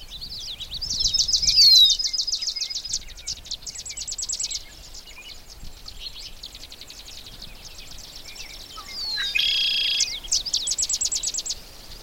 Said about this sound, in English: I've actually moved to a position where I'm a little closer to one of those sedge wrens and to the red-winged blackbirds.